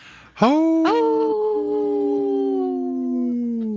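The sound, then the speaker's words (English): Voices imitate wolf howls for a Howling for Wolves sponsor message: one starts with a rising cry and a second joins moments later. The loud, sustained notes slide slightly and hold steadily for several seconds, with no talking. “Hey, this portion is brought to you by Howling for Wolves, protecting wolves for future generations.”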